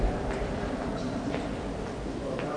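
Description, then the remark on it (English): A steady rumble of a DLR light rail train running through a tunnel beneath the River Thames, with faint rhythmic clicks from the wheels over track joints and no voices. “I've got a stunning look at the stadium from the DLR leaving Stratford, coming south”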